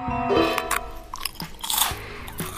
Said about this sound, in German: Wenn jemand schmatzt, dann geht mir das echt so richtig auf den Keks.